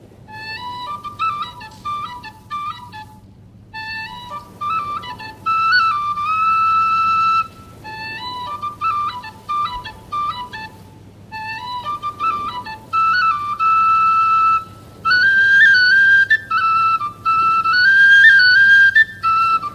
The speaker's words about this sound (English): And passed down with a flute was a tune, a seal calling tune. And when the tune was played, the seals would hear it, and they would pop their heads up to listen. And it went like this.